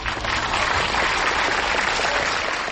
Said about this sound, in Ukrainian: Тиша. А тоді зал зривається оплесками.